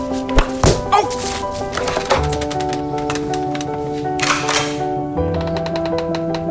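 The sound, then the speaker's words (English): A house door slams with a heavy thud and a quick follow-up knock near the start, then steady sustained music tones carry on with a few lighter taps. “I told you not to slam it.”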